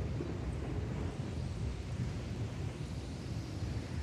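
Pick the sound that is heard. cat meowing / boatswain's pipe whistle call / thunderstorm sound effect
thunderstorm sound effect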